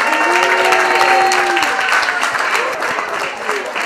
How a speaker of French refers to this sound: Alors on fait venir les Knights d'abord, qu'on applaudisse s'il vous plaît, les Knights de Neuchâtel.